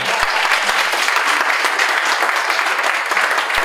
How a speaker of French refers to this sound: c'est mon honneur et un petit peu ma fierté en tant que président des droits d'auteur en ligne anonyme de te remettre ce badge parce que ça fait 2 ans que tu n'as plus touché aux droits d'auteur et je pense qu'on peut l'applaudir très fort.